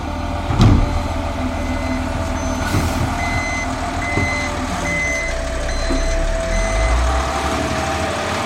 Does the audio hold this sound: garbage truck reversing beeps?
yes